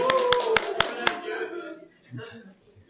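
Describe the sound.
Five sharp, loud claps ring out in a quick, even rhythm over a sustained voice, applauding those who slept well, then fade into quieter murmured talk.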